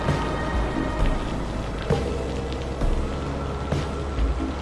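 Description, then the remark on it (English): Heavy rain patters steadily in a dense, continuous wash, with a low rumble of wind underneath and a few louder bursts rising briefly out of the downpour. “Only the howling of the wind remained, the violent patter of the rain”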